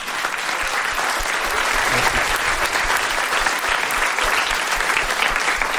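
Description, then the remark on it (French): Steady applause from a crowd, dense clapping with no clear rhythm, loud and sustained for about six seconds with no talking over it. “Ah, applaudissements pour Daz.”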